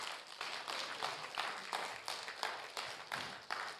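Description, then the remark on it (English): A church audience applauds steadily for its members under 40, who are standing; many hands clap in a dense, continuous wash with rhythmic surges of louder claps roughly every third of a second, no voices standing out. “Can we give these people a big round of applause?”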